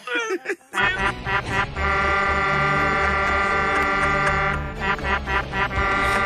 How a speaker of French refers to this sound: C'est pas parce qu'il y a de l'orgue aussi, hein, on entend l'orgue. Il y a de l'orgue dans mon klaxon! Hey, mon truck est déjà décoré à part de ça!